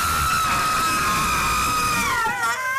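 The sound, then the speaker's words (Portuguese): A long, loud scream sound effect with a hollow, cavernous echo, holding one high pitch for about two seconds before sliding downward as it fades. “E eu pensei, vou aqui buscar um grito e não é que encontre este que é meio cavernoso.”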